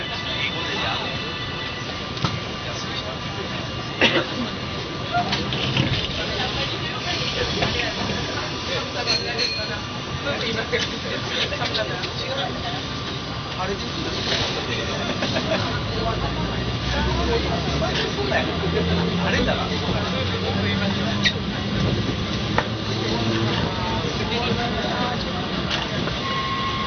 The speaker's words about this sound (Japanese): お待ちいたしました。本日は江戸電車ご利用いただきましてありがとうございます。この電車19時37分発奈良駅でございます。次は元奈良区です。八瀬方面越しのお客様、途中の宝ヶ池でお乗り換えください。